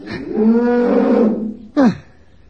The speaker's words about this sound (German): Dass der Zenzi das nicht gefällt, ist ja logisch, würde ich mir auch nicht bieten lassen. Sie muht ganz erschreckt